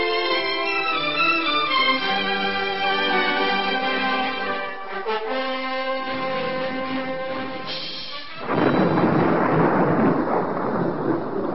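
A tonal musical passage gives way abruptly to a loud, continuous thunderstorm in the radio drama High Adventure story The Cruel Sky, with rolling thunder rumbling beneath a dense wash of storm noise for the final few seconds.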